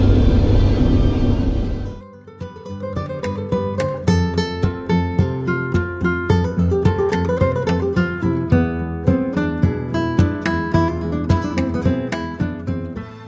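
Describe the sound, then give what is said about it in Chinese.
A loud, steady airplane cabin roar during a flight over the Pacific Ocean toward Auckland fills the first two seconds, then cuts off abruptly and gives way to music with plucked notes and light percussion for the rest. “我也不知道在飞机上应该讲些什么，就一路平安吧。”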